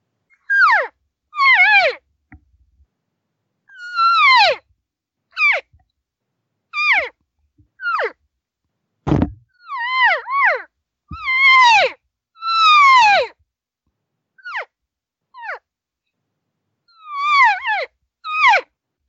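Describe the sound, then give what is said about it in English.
A person imitates elk cow calls to reach any elk out there: a long series of short, nasal, descending mews, some in quick pairs and clusters, loud, with a sharp knock partway through and no talking. “Right now I'm trying to focus on any elk out there. And so the normal sounds would be like this.”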